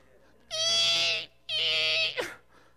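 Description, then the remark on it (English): A voice imitates the rusty squeak of the Tin Man needing oil as he tries to lift his hands: two long, high, strained squeals separated by a brief pause. The second ends in a short downward vocal slide. The squeals are loud and stand alone. “You're like the Tin Man who needs oil. And you try to lift your hands and you squeak.”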